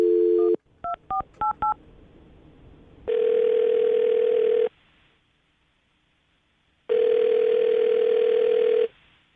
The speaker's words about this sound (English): All right. Well, I'm going to dial the phone number right now, get her on the phone